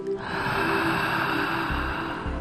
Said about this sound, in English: So we're breathing in and out the mouth without any pauses at the top or the bottom. We're just breathing in that circular motion, fully all the way to the top.